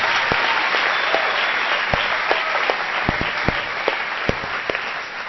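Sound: audience applauding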